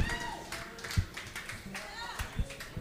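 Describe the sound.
A round of applause with scattered claps and a few sharper hits, mixed with cheering voices and a crowd murmur, at a moderate level.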